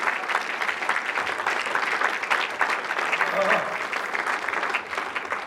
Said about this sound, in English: Oh, if you believe it, clap your hands and for the Lord.